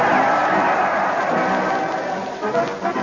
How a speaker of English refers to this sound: Listen to that crowd. They're cheering madly as they march along with Fred Allen and his parade to the old Town Hall.